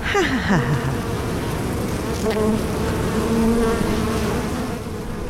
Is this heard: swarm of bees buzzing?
yes